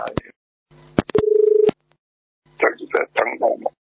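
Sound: telephone line ringing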